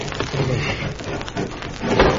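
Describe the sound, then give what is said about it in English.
A heavy bed is pushed behind a dresser, scraping and rumbling across the floor in one steady, rough drag lasting about two seconds, with a few wooden knocks and a louder grinding surge near the end. “Now we'll push that bed behind the dresser so it'll be firm enough to tie the rope to.”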